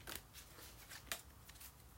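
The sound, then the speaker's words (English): A Peace of Mind intuitive healing card deck being shuffled, a rapid papery riffle of crisp flicks and snaps with one sharper slap near the middle, with no talking over it. “We're going to pull some cards out now, shuffle the cards and see what pops out. Hear the shuffling noises.”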